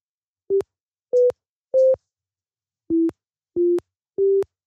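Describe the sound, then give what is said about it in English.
Six short, pure sine-wave tones from a basic software synthesizer (Raysynth in Reaper), played on a virtual MIDI keyboard, in two groups of three at slightly shifting pitches, each note starting and stopping with a faint click. Clear, with no voices. “There it is, a simple sine wave, a pure frequency, just the fundamental tone that corresponds to the note that I'm playing.”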